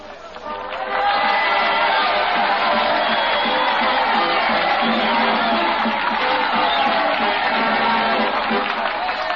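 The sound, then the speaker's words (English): A large crowd on Cemetery Hill in Gettysburg on a chill, gray November day in 1863 cheers and applauds after Edward Everett's two-hour oration, a loud, sustained roar with scattered whoops and clapping rising after a brief softer start and holding steady to the end. “It lasted 2 hours, but the crowd there loved it.”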